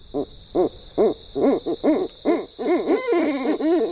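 A series of owl hoots repeats in a steady rhythm, then quickens into denser, overlapping calls, with a constant high insect-like hiss in the background. No one speaks.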